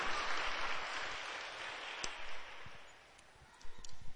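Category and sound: crowd, audience applause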